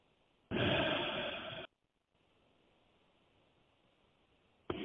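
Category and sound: human body sound, deep breathing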